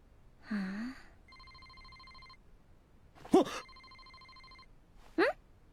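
A phone rings with two steady electronic ringtone bursts, about a second each, separated by a short pause. Brief vocal sounds come just before and between the rings.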